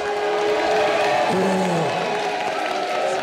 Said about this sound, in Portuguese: Menções ao presidente Lula vieram acompanhadas de palmas e vaias.